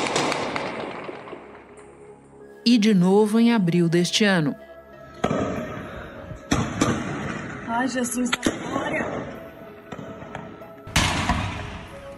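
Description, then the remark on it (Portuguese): Several loud, sharp gunshots crack out at irregular intervals, each with a ringing, echoing tail, while people talk and one voice cries out in between, during an attack on three banks in the city of Mococa. “Olha o barulho de tiro. Muitos tiros.”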